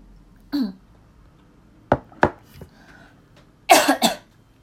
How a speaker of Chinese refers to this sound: 欸，你们会介意就是在 podcast 里面咳嗽吗？可是我真的不是故意的，然后我的节目都是一刀未剪，所以我就没有办法剪掉